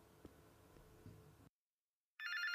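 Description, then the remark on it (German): A loud electronic mobile ringtone suddenly starts at night, at almost 2 a.m., waking a sleeper, warbling between two pitches, after a stretch of quiet low background rumble and a brief silence. “Das Klingeln ihres Handys riss Macy aus dem Schlaf.”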